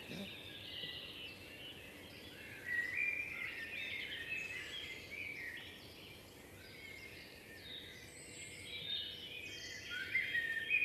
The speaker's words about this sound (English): Yeah, so you're getting a mixture of robin, blackbird, song thrush, and as I said, we even had our own snipe.